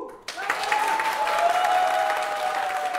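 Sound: applause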